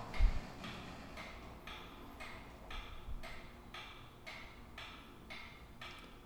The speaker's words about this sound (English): And of course, the clock.